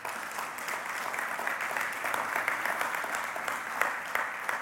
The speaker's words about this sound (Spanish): Vamos a dar un aplauso a Dios por eso, ¿verdad que sí?